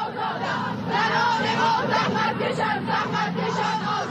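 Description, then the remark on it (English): A large crowd of more than 10,000 women protesting in the streets, chanting and shouting together, a loud continuous roar of many high-pitched voices with rhythmic surges, filling the whole clip without a clear single speaker. “Today, more than 10,000 women poured into the streets.”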